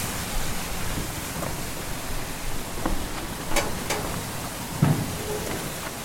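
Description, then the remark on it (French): A steady, dense rush of flowing water at a lock on the navigable stretch of a river fills the scene, loud, with a few faint clicks and knocks surfacing briefly over the continuous roar. “On va traverser une écluse en fait, justement de la partie aménagée de la rivière qui permet de laisser passer la navigation.”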